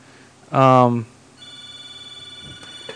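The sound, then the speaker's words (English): A telephone rings with an incoming call, a steady electronic warble that starts partway through and keeps going, preceded by a brief loud voiced sound. “We have a phone call.”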